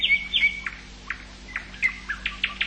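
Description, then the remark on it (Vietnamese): A bird, a duck shot by Devadatta and saved by the prince, chirps in a series of short, high tweets, some quick pairs and some single notes at an irregular pace, moderately quiet over a faint steady hum with no one speaking. “Con chim này tuy hoàng thân đã bắn nhưng ta cứu được.”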